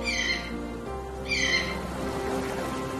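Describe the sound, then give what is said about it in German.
Two bright, fairly loud bird calls ring out about a second apart over a steady, low humming background, with no one speaking, at a wide beach by a calm sea early in the morning. “Die Vögel,”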